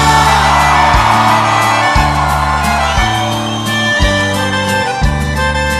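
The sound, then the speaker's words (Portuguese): A crowd shouts and whoops loudly in answer to the singer's call for everyone in love to shout, over steady band music with a thumping bass line, the cheering sustained and dense for several seconds. “Quem tá apaixonado dá um grito.”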